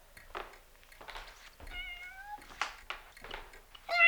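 A cat meows repeatedly, a series of short, tonal mews with one longer drawn-out cry in the middle and a louder, sharper meow at the end.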